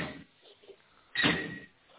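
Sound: cabinet door being opened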